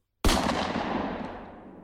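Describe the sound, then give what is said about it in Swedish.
A single loud gunshot inside a hotel room bursts out of silence and rolls away in a long, echoing decay that fades gradually over the next second and a half. “hörde han ett oroväckande ljud som fick honom att rygga tillbaka. Ett skott. Sen ett till.”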